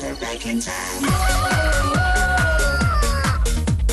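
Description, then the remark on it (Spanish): A loud, drawn-out rooster crow rings out over a steady thumping beat, holding its strained call for about two seconds before trailing off as the rhythm keeps going. “De gallo, agur, aupa, quirico. ¿De qué ha dicho? ¿De gallo?”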